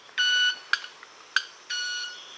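A manakin's wing-made sound, produced by rubbing its wings against each other (stridulation), not by singing: a sustained, pure, ringing tone, two sharp ticks, then the ringing tone again. The tones are steady, bright and fairly loud, with no voices.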